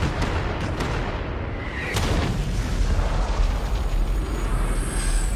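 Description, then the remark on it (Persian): A heavy broadside from a starship's cannon batteries: several booming shots in quick succession, then a louder blast that swells into a sustained, thundering rumble. Loud, with no voices. “باتری ها رو شلیک کنید. کناره هم با قدرت.”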